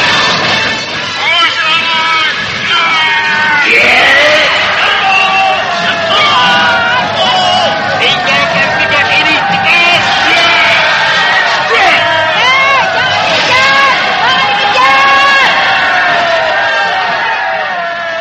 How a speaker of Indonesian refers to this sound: maka taulah bahwa yang datang berbondong-bondong itu adalah rakyat kampung Koneng.